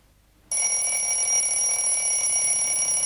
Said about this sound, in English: Kate blearily raises her head, then reaches out and turns off her alarm clock.